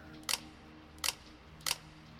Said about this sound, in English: The shutter clicked a handful of times like chattering teeth.